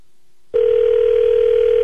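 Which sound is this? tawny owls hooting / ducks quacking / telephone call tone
telephone call tone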